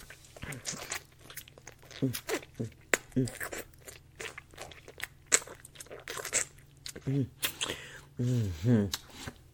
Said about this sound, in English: A few spit bubbles. We're gonna make it even sloppier, baby.